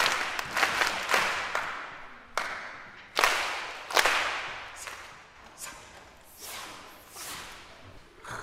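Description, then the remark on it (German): A group of children at an orchestra concert stomping, clapping, rubbing their hands, jumping, drumming on their thighs, clicking their tongues and snapping their fingers in uneven bursts, with sharp slaps and thuds standing out from a rustling wash of body percussion, lively. “Kinder singen nicht nur mit den Profisängern, nein, sie stampfen, klatschen, reiben die Hände, springen, trommeln auf den Schenkeln, schnalzen, schnipsen.”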